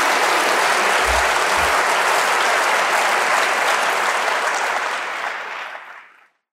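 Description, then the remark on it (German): An audience applauds steadily to thank a speaker after a question session, a dense wash of clapping that holds strong for several seconds before thinning out and fading away near the end. “Nochmal einen großen Applaus und vielen Dank.”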